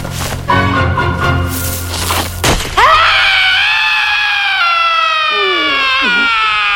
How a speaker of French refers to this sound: Quel cri terrifiant! C'était juste Marcille.